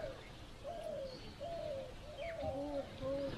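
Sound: doves cooing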